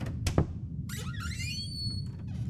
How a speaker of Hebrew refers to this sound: כשיצאתי, שמתי לב שהדלת למרתף חצי פתוחה. התקרבתי לה בעדינות וניסיתי לראות אם אבא או אמא שם למטה. היה שקט. פתחתי את הדלת והשמיע רעש חריקה.